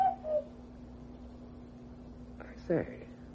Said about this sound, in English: Say, was that the cuckoo? Yes, sir. Over in the little wood. Been there for some time.